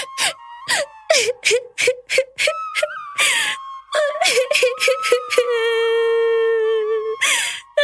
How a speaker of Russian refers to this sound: О чем плачешь, миленькая? Вон там вдали мой родной дом виднеется. Я по отцу соскучилась. Ой! Не плачь, моя хорошая, не плачь, дитя мое.